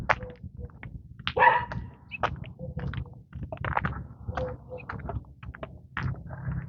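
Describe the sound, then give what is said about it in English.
A small dog being walked by a woman barks and yelps in short, scattered bursts over a steady low rumble of outdoor background noise. “Nice lady walking her dog. Nice little dog it is.”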